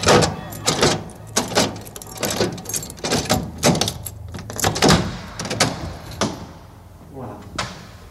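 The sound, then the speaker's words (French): A door is shut and locked, a quick series of sharp clunks and metallic clicks as the bolt is turned several times, with voices in the background. “Pour fermer la porte complètement, il faut faire avant 3 et puis 6.”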